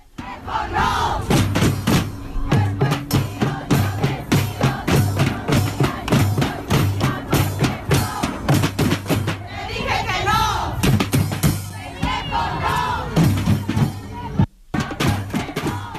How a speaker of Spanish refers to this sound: Bueno, este eslogan es un grito de protesta a la autonomía corporal.